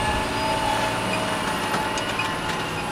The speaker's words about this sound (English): But as the tractor pulls away,